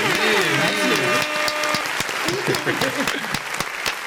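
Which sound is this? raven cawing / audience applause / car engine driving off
audience applause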